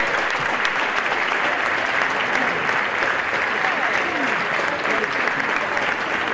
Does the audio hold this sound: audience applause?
yes